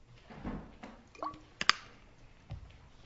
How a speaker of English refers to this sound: I need to get a drink of water after that lengthy introduction.